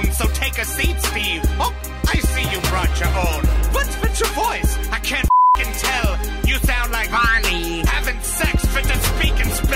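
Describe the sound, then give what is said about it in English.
A brief, steady censor bleep about a third of a second long covers the word "freaking" in a loud, busy song with vocals, silencing everything else while the pure tone plays before the music resumes. “We beep freaking. It made it seem even more gangster.”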